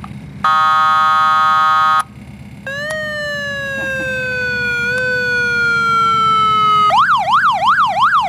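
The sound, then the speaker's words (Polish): The additional siren of a fire truck cycles through modes, loud: a steady blaring tone, then a long, slowly falling wail, then a rapid warbling yelp, with no talking. “Tu jeszcze jest dodatkowa sygnalizacja.”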